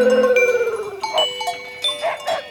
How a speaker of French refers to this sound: Ça, c'est les brebis qui ont fait les petits. On les met là dans les filets, elles mangent la repousse, la deuxième coupe ou la troisième coupe.